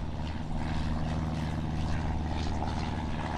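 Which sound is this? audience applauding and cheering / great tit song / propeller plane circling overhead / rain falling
propeller plane circling overhead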